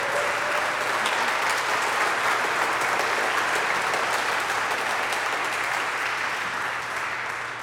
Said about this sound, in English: If you will, join me in celebrating our youth this morning in a round of applause.